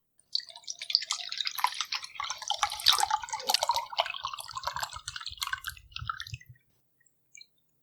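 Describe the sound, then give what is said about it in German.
A white, odourless liquid tasting of coconut is poured into a glass in one steady, bubbly stream lasting about six seconds, with low gurgling glugs throughout, followed by a brief faint tap after it stops. “Und mit dem richtigen Glas passt doch alles rein.”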